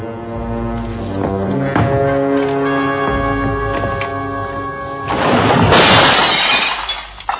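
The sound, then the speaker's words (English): A sustained, droning tone plays for several seconds, then a loud crash of glass shattering, added in post-production, bursts in, its bright breaking noise spreading out for about two seconds before cutting off. “I think that glass crashing was added.”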